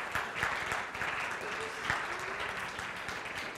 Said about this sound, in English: All right, applause for artist number two.